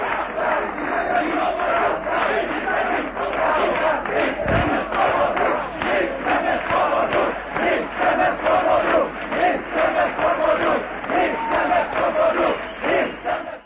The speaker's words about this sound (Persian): آن روز، روز یکشنبه، پراگ ناگهان شاهد اعتراض 10,000 تن به حکومت مطلق کمونیست ها شد. معترضان فریاد می زدند که آزادی می خواهیم.